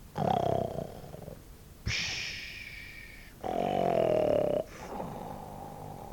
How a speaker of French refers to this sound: Chut ! Qu'est-ce que c'est que ça ? On dirait un grognement de cochon. Non, non, c'est quelqu'un qui ronfle.